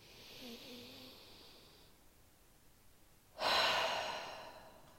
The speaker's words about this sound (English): Let's all take a deep breath here. Let's just. Take two more. Breathing in through the nose, out through the mouth.